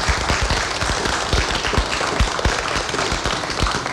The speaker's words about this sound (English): We give... Clapping is okay.